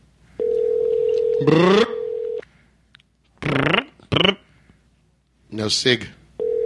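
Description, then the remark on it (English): An outgoing call's steady telephone dial tone hums for about two seconds, partly overlapped by a voice. Short bursts of talking follow in the quiet line, then the tone starts again at the end. “Where we're calling you”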